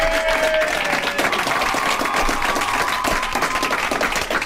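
Steady audience applause, a dense wash of many hands clapping at an even loudness throughout, with a faint tonal hum in the background and no voices.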